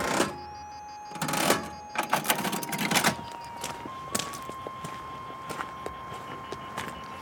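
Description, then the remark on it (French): An old mechanical cash register clatters through a burst of key presses and lever clunks, a ringing tone lingering afterward while softer scattered clicks continue, fairly loud. “Avec une vieille caisse enregistreuse.”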